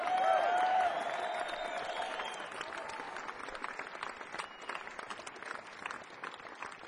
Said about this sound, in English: Back on the drums, a big round of applause for his first time in Westbury,